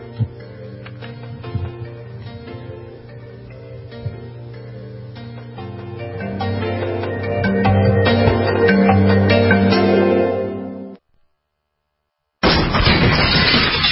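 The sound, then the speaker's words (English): A burglar kicking in the door of a dark house: a loud, sustained run of heavy thuds and crashing bangs, then a sudden second of silence before another harsh burst of noise. No one speaks. “What it sounds like when a burglar kicks in the door of a dark house that looks like no one is home.”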